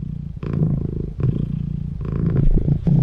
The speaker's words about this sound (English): Can you guess what that is? It's a kitty. It's a purring kitty. It's a cat purring.